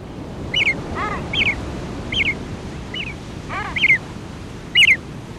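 Seabird chicks at sea, accompanying their fathers on the waves, give short, high calls about once a second, answered now and then by lower descending calls, over a steady wash of waves.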